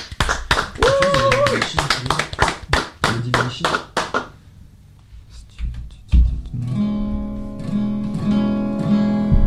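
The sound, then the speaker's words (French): Sharp audience applause, hand clapping in a quick steady rhythm for a few seconds, with a voice over it, then a brief lull before music starts up. “Et voilà, on vous applaudit très fort tous.”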